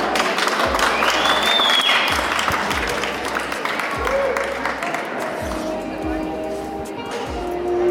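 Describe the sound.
Steady applause from a crowd for an Afrobeat dance performance fills the room, dense clapping with cheering mixed in, plus a rhythmic low beat of music pulsing underneath and some voices in the mix.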